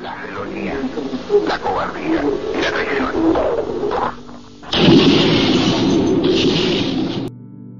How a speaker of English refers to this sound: Those explosions were recorded in the actual radio broadcast.